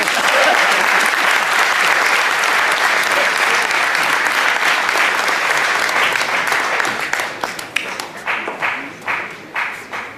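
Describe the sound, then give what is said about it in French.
A crowd applauds loudly and steadily for several seconds, a dense wash of clapping that thins toward the end into scattered, distinct claps as it dies down. “On peut encore applaudir de toi tout le monde, s'il vous plaît.”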